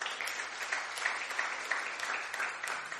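An audience at a Sunday church service at Last Adam Tabernacle claps steadily for the worship team, many overlapping hand claps forming a dense, bright patter with scattered sharper slaps, sustained at a moderate level with no voices.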